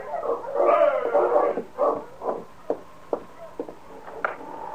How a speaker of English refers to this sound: The long nights were lonely ones for Dave, and his face lighted up with pleasure as he heard the sound of Sergeant Preston's dog team stopping at the cabin.